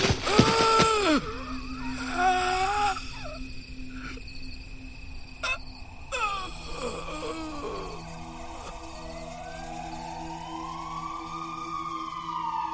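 An ambulance siren wails in rising and falling sweeps, moderately loud, over a steady background of chirping insects, with no one talking.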